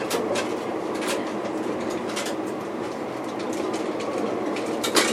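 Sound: train running on rails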